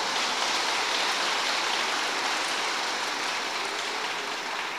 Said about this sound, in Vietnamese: Nếu các con thấy lời khuyên của thầy là chánh đáng, hãy cho một tràng vỗ tay thật lớn để cam kết nào.